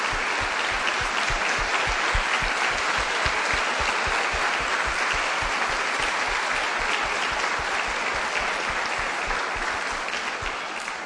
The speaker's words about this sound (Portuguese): Vamos terminar essa mensagem de hoje aplaudindo as mães.